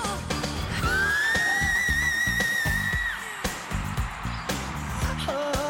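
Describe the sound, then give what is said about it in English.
A Northern Cardinal's clear, whistled song: one long note that slurs upward and then holds steady for about two seconds, followed later by a short, lower whistle, over busy low-pitched musical sounds. “Even if you don't have any big names touring nearby, you can find birds with impressive vocal talents, like the widespread Northern Cardinal.”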